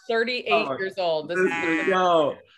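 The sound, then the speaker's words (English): A person's voice mimics a goat bleating, a loud, wavering, nasal bleat stretched over a couple of seconds with several quavering pulses, clear with no other sounds. “Goat noises.”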